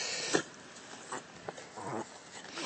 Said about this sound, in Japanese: なんだよ、何吠えてんの。何かに警戒感をあらわにしていますな、犬が。なんかいるのかな。